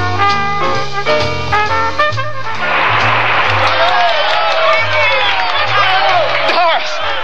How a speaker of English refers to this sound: Can you hear him? Can you hear that applause? Can you hear him all through the concert? The crowd in London would have given you the same reception.